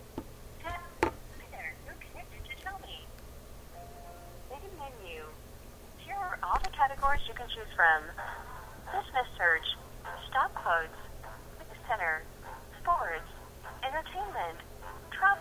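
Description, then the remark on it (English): A phone call placed on a phone's speakerphone after pressing the send button: thin electronic dialing tones and beeps come through a small tinny speaker, followed by muffled voices on the line at moderate volume. “I'm going to hit the send button here. Call them. And I'll open up the phone so you can hear the speaker phone.”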